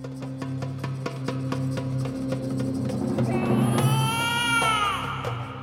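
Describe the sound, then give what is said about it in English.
A king's newborn son's wailing cry rises near the end, heard over a steady droning musical bed with a regular ticking beat. “Why are you showing me the newborn son of King Dasharatha?”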